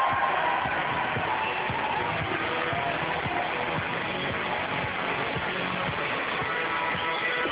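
A TV studio audience applauds and cheers steadily as comedian Paul Whitehouse is introduced, a dense wash of clapping and whoops that holds at a fairly loud, even level from start to finish with no voices breaking through.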